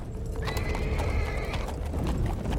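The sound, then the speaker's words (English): Hooves clip-clop steadily over a low rolling rumble of a horse-drawn coach, escorted by a convoy of knights on horseback through a misty forest at night, with a thin, drawn-out whinny-like tone rising briefly in the middle; no one speaks. “In the dark of night, torches blaze from a horse-drawn coach as a convoy of knights on horseback lead the way through a misty forest.”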